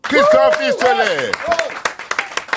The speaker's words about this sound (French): Applaudissements. Ah, quand même, on l'applaudit